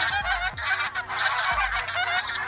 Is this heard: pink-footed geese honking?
yes